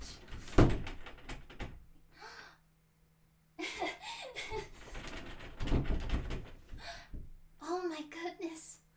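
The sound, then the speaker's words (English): A door handle is rattled and jerked several times in quick, sharp knocks, as if someone is trying to open a locked door, followed by voices and laughter. “Do you want me to prove the doors aren't locked?”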